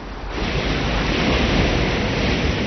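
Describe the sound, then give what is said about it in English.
Steady, loud rush of turbulent water from a mountain stream in its upper reaches fills the scene, a dense continuous roar that swells in after a brief softer start and holds constant throughout, unbroken. “In their upper reaches, mountain streams are full of energy.”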